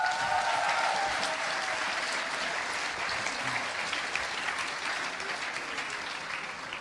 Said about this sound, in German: Gib mal kurz einen Applaus